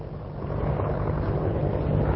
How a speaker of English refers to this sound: As American military helicopters patrol the skies, scores of U.S. soldiers arrive at Babylon for a first-hand glimpse of the history of the nation they now control.